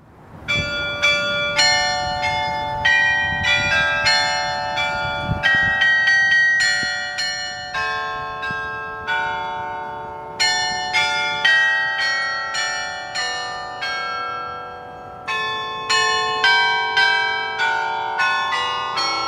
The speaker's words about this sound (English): The gift took the form of a carillon, a musical instrument consisting of bells played from a keyboard. The first 49 bells arrived in the United States in 1954.